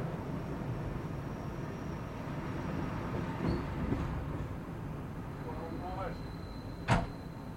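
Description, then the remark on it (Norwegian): A steady low rumble of a train rolling along, with a rising-and-falling motor whine as it slows and stops at Kopperå station, ending in a short sharp hiss of brakes near the end. “Ja, da har vi gjort en liten pause på Kopperå stasjon”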